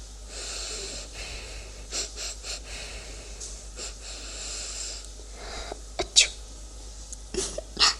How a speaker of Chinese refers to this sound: 怎么样，姐姐，味道如何呀？受不了吗？还打喷嚏了？